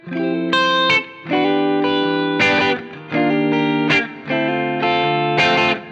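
A slightly overdriven Gibson electric guitar, played through an amplifier with presence and treble turned down and middle slightly reduced, plays sustained chords with a gritty, throaty edge, strummed in repeated phrases with brief pauses between them, fairly loud, no voices.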